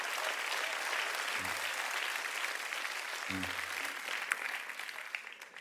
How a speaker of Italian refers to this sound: Facciamo un applauso